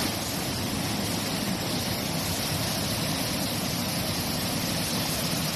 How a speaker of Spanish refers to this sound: Nos llegan noticias de áreas enteras anegadas de Lebrija por intensos chaparrones y este que vas a escuchar es el sonido del arroyo de la Encarnación a su paso por la localidad de Gerena.